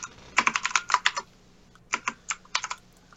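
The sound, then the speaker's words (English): Quick bursts of keystrokes clatter on a non-mechanical computer keyboard, a rapid run of taps, a brief pause, then another flurry of typing, fairly crisp with no one speaking. “So, webcam and non-mechanical keyboard.”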